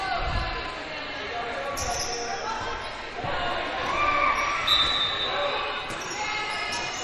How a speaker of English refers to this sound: Slap of the basketball.